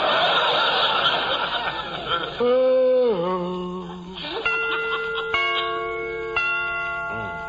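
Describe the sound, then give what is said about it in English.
A burst of chuckling gives way to a wavering tone, then a clock chime strikes three times at roughly one-second intervals, each ringing note lingering and fading. “Remember to get them chimes made softer. No sense in letting the neighbors hear the time for nothing.”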